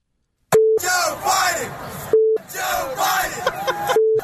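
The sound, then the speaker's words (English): At a Virginia Tech college football game, a loud crowd of mostly students chants in two rhythmic bursts, each bracketed by a flat, steady electronic censor beep, three beeps in all, cutting in where words would be. “We have the beeps in here, right?”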